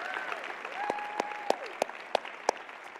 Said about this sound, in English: Can we give the Tharps a big round of applause and just give them a little honor today?